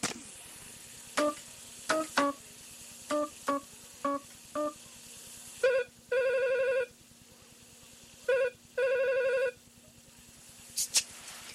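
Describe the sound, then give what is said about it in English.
A string of short electronic keypad beeps, then a phone rings twice in loud, buzzy trilling bursts, with a low steady hum underneath and no talking. “Say, I wonder why Elon would be carrying a celery phone.”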